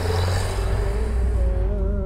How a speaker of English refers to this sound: It played softly on the car radio, mixing with the sound of passing motorcycles. Starting to get a bit of pre-dawn traffic here.